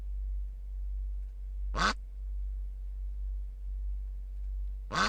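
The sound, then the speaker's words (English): Two short, raspy duck quacks, about three seconds apart, each a quick burst over a faint, steady low hum: first an ordinary quack, then the quack with one echo added by an electronics effects box, as if the duck were flying past a cliff 50 metres away. “Now, listen again to the ordinary quack, and then the quack with one echo.”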